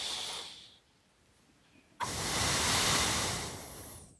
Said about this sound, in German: Kommt wieder diese Atemgeräusche.